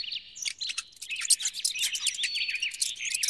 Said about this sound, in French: Au secours! La méchante bête! C'est une petite souris, Lily.